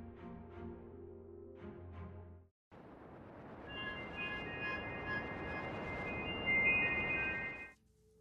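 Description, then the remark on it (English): After a brief tonal passage, an otherwise empty subway train at midnight rumbles steadily and loudly for several seconds, high metallic squeals from the wheels ringing over the roar before it cuts off. “It was midnight, and I sat across from Jackie in an otherwise empty subway.”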